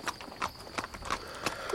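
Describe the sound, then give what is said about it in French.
Horse hooves clip-clop in a steady walking rhythm, a series of sharp knocks repeating about every third of a second as someone brings a horse back, with no one speaking. “Avec mon cheval.”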